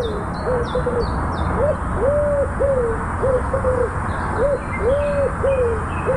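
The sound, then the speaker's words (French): A common wood pigeon coos in soft, hollow, rhythmic phrases, repeated several times, while small birds chirp faintly in the background over a steady outdoor hiss. “c'est pas tellement les notes que le rythme du chant du pigeon ramier.”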